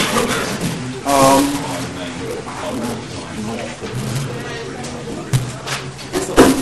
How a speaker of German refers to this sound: macht die Tür zu